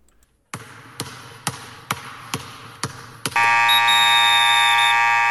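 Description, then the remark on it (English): A basketball bounces six times in a steady dribble over crowd-like background noise, then a loud, sustained shot clock buzzer blares and holds until the end. “We're dribbling around and see the shot clock's almost out, so we got to put up our shot and come back tomorrow for some more great sports history.”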